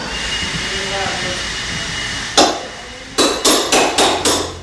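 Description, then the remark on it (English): A hammer bangs at wood as a volunteer pries up baseboards in the front room of a house: one sharp blow, a pause, then five quick, evenly spaced strikes, loud over the steady whooshing hiss of a leaf blower pushing water out of a back room. “In the front room, a volunteer pulls up baseboards.”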